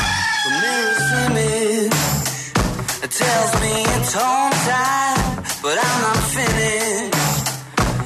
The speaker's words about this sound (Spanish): Es el gallo, Radioactiva. Insolentes, deslenguados, impertinentes, desde la vaina, el gallo, por Radioactiva.